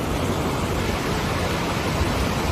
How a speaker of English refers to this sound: Water pouring down on Nevada.